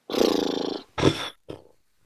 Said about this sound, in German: Die Übung heißt nämlich Lippenflattern. Und das ist wie so ein Pferdeschnauben. Das kann man ohne Ton erst einmal machen, um zu probieren, ob das geht.